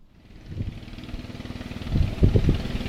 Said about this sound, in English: Father Moises climbed into his boat. He motored onward to a community where he feared the reception would be different.